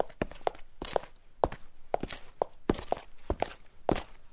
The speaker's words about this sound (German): Da haben wir gehört, dass der Mensch irgendwie auf der Straße langläuft.